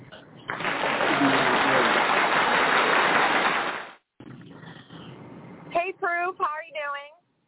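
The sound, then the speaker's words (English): A burst of canned applause played as a sound effect on a radio call-in show, dense and loud, claps for about three seconds before cutting off abruptly, followed by a softer stretch of crowd noise and a few short vocal sounds. “The applause didn't go off yet, so...”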